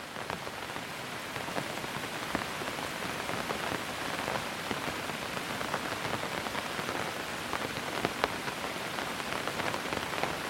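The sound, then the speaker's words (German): Steady rain falls at night in a city and patters on pavement, a dense, even hiss with scattered sharper drops, continuous throughout, with no voices. “Der Regen ist dein leiser Begleiter, während du weitergehst.”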